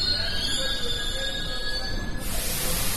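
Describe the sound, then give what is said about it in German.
A metro train running on rubber tyres, 80 per train, squeals through the underground with sustained high-pitched tones over a steady low rumble, then gives way to a broad hiss of rushing noise near the end. “Bis Mitternacht quietscht die Metro auf ihren 80 Gummireifen pro Zug durch den Untergrund oder saust oberirdisch am allabendlichen Verkehrschaos vorbei.”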